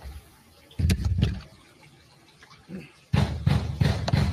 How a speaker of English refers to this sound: There's a moment of audio on here that I want to play for everyone, because this is what first sounds that Roger Stone woke up to this morning was the FBI pounding on his door and shouting this.